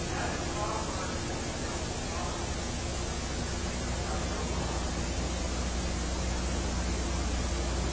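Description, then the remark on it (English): A noisy fan runs nonstop right behind a speaker, giving a loud, even whooshing roar that spans low to high pitches, with a faint low hum underneath and no change in level throughout. “The fan's right behind me, and it's pretty noisy.”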